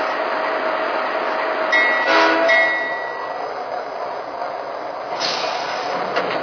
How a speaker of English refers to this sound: Los Angeles on track one. Train number two, the Sunset Limited.